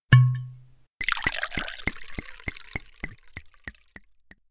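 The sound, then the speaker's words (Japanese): A short ringing tone, then a 410-year-old white wine splashes into a glass for tasting, the gurgling pour thinning into a run of quick, evenly spaced drips that fade out. No voices. “それではテイスティングをお願いします。”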